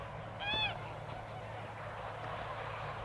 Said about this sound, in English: We can see all of the geese down here.